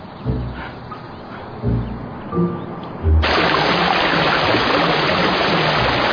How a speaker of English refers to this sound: But right now, I got 12 classrooms full of water. All coming from a busted water main.